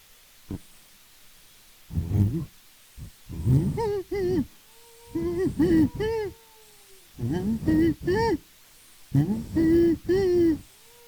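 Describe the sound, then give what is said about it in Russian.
An owl hoots close by in a series of loud, harmonic calls, roughly five or six bursts spaced a second or two apart, with quiet gaps between them. “Это сова, ну, филина можно подальше, а сова, она где-то близко.”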